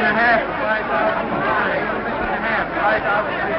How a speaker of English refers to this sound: The next day, on the trading floor of the stock exchange, crowds of traders hurry around buying and selling stock.